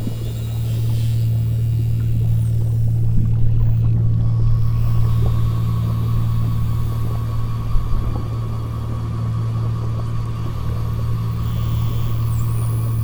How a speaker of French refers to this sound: Estuaire du Saint-Laurent. Baigné dans le bruit des navires, les appels des bébés portent deux fois moins loin qu'en eau calme.